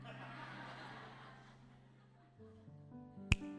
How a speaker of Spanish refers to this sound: Y hace el chasquido.